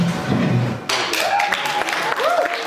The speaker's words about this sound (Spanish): Con estos aplausos, los reunidos en los estudios de RT en Moscú, entre ellos la directora del grupo mediático Margarita Simonyan, celebraron el lanzamiento de emisiones de RT-DE en alemán.